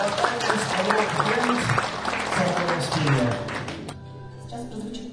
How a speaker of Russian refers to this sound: Итак, друзья, еще раз аплодисментами поприветствуем.